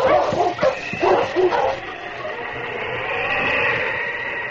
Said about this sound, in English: The big husky slowly circled, searching for the scent. Then, where a branch trail, now hidden by the snow, turned to the left, the big dog stopped and barked.